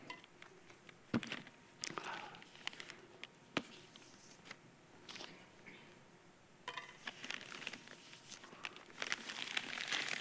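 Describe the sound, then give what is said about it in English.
Paper crinkles and tears as a brown paper package is unwrapped, with irregular rustling bursts and sharp rips spread across several seconds and no talking. “Brown paper packages.”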